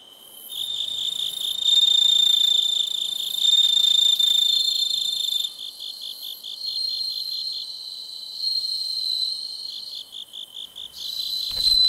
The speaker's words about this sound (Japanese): 仙台市の虫としても知られるスズムシ、自然ではなかなか見つけることが難しくなりましたが、そんなスズムシを飼育している岩切市民センターにお邪魔して鳴き声を録音させていただきました。宮城野のスズムシとして日本の音風景百選にも選ばれている音を少しお楽しみください。